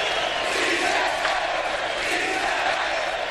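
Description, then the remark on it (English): A large crowd of protesters shouts in the street, on the streets of Athens and Madrid, a dense, continuous roar of many voices at steady loudness, with no single voice standing out. “But now, on the streets of Athens and Madrid, the people on the receiving end are making their voices heard.”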